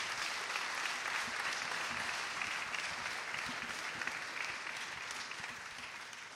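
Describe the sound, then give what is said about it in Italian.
An audience at a public talk applauds as the microphone is handed over to the speakers, a dense wash of many hands clapping steadily at a fairly loud, even level that eases off slightly toward the end. “grazie della presenza numerosa e passo il microfono con un applauso.”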